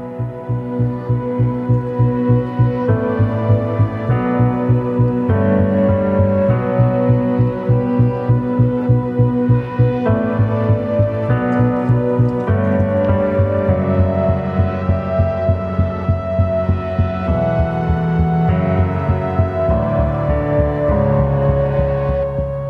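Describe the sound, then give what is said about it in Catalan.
Instrumental theme music from the French TV series Les Revenants plays steadily, with a pulsing, throbbing low rhythm under sustained tonal layers and mid-range melody, fairly loud and with no voices. “També ens ha vingut al cap una altra sèrie televisiva, aquest cop francesa, i de la que estem sentint la seva banda sonora.”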